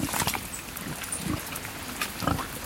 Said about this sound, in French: Là, c'est des cochons bien nourris. Oui, bien nourris, nourris naturellement.